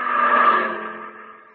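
A car engine hums, swelling briefly and then fading steadily as the vehicle drives past and away down the road, with no voices.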